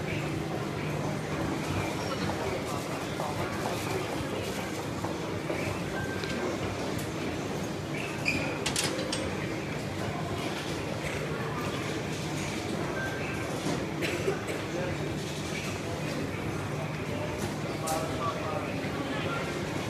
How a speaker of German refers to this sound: Jetzt möchte ich, dass wir uns noch mal ganz kurz für eine Minute lang Subway, die U-Bahn, angucken und dann werde ich Ihnen sagen, was ich hier mit dieser Verbindung meine.